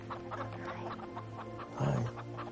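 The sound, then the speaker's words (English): Several escaping chickens cluck, squawk and flutter in a busy, overlapping jumble, with a louder burst of squawking near the end, lively, with no talking. “Chickens flutter.”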